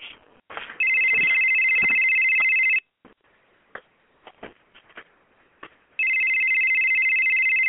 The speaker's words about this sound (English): Please answer the phone. Oh, my gosh. It's just ringing off the hook.